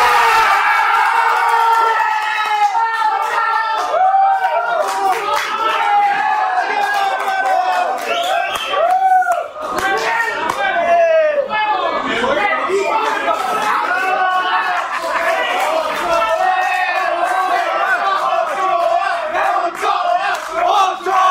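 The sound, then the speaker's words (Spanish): A crowd in the restaurant Los Canarios erupts in loud, sustained shouting and cheering as goalkeeper Francisco Guillermo Ochoa saves a penalty, many voices overlapping at once and staying intense for the full twenty seconds with no quiet break. “Cuesta creer que el escándalo sea por un penal salvado y no por un gol. Todo mundo grita en el restaurante Los Canarios.”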